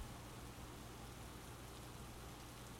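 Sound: rain falling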